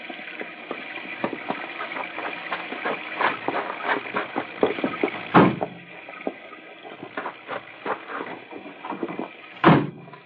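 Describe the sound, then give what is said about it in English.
Car doors clatter open amid a steady engine idle, then two heavy slams land several seconds apart, loud, with scattered rattles and handling noises between them. “I'll open the car doors.”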